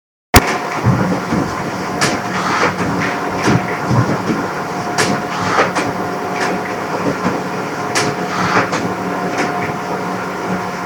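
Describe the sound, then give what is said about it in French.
An office photocopier and paper shredder at an internship workplace run continuously, a steady mechanical whir and hum punctuated by sharp clacks every second or two. Fairly loud, with no voices. “Maintenant, je vais vous laisser écouter trois bruits pris sur le lieu de stage, c'est-à-dire une photocopieuse, une broyeuse et un téléphone fixe qui sont très utilisés dans le travail de bureau et qui étaient utilisés sans arrêt pendant mon stage.”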